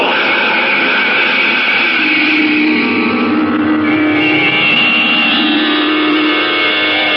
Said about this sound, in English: Its exhaust tube spitting smoke and flame, the rocket hovers over the ground for an instant, then quickly accelerates, and at a speed of 5,000 miles per hour, it arrows into the night sky and disappears from view.